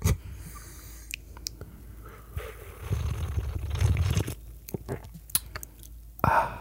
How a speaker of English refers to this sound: Let me do some ASMR with the espresso sipping. You ready? Okay. You have to like really pump the mic up on this one.